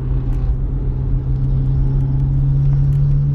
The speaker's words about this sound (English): I was distracted by what was supposed to be a crotch rocket revving, but instead it's just a guy in a beat up. Is that a Mazda Miata? I don't know, it's beat up like hell, but it's got, sounds like it's got some racing mods on it.